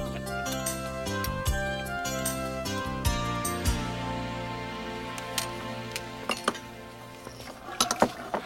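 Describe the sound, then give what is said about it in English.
Dishes and pans clink and clatter as they're washed, with irregular metallic and glassy knocks over a steady tonal background, growing busier toward the end. No one speaks. “Well, that's the last of the dishes.”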